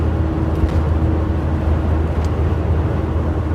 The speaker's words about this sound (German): Ich bin jetzt auf dem Abschnitt, wo ich mit meinem Bus auch mal ein bisschen schneller fahren kann, weil es geht bergab und ich habe ein kleines bisschen Rückenwind.